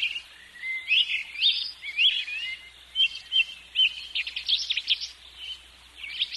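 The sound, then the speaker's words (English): Loud, busy birdsong outdoors, with overlapping chirps and warbling trills from several birds, steady throughout, with a faint low background hum beneath. “The birds are out there really loud, and I'm going to move out for a while.”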